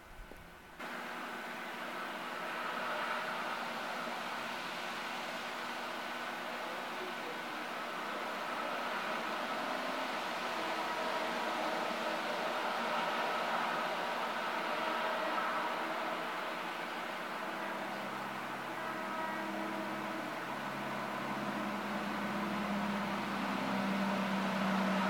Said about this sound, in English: That's the other thing I want to analyze, that is what I mentioned, is how that train passing is captured. So I'm not going to do any more commentary for a couple minutes. I want to hear this.